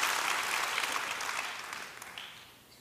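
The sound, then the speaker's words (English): An audience claps for the speaker's mother, a dense wash of many hands that holds strong for about two seconds before gradually tapering off toward the end. “Now, give it up for mom. Yeah, she deserves applause.”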